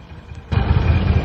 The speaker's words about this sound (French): Là, le bus passe.